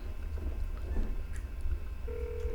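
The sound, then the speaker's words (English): A phone call being placed: faint dialing sounds over a low, steady rumble, then a single sustained ringing tone begins near the end, fairly clear, with no one talking. “call this nigga, man.”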